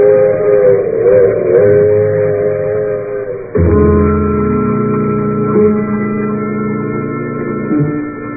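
train whistle

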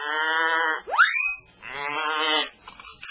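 goat bleating

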